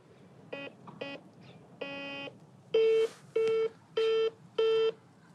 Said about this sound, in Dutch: Zal ik het nog een keer proberen? In gesprek staat er, alsof er al iemand aan het bellen is.